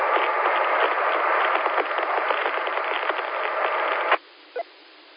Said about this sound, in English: I can't tell if that's it or if it's just your location or the noise from the truck running.